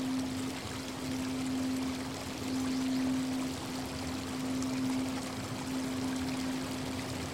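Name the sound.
flowing river water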